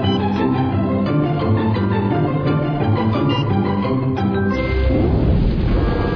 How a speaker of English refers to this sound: It's been raining all day.